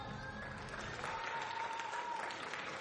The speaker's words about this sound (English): Listen to them clap, Rita. Clapping, mother. For the nurses and the first responders.